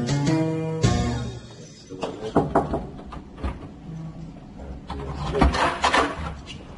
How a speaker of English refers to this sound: uses a key to open the door to his lab at West Virginia University.